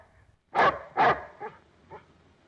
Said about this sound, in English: Matt looks out at the chained-up dog.